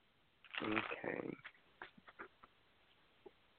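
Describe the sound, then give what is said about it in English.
A quick shuffle of a deck of angel cards: a short, dense riffling burst lasting about a second, then a few soft, scattered taps and clicks before quiet. “And they get a quick shuffle.”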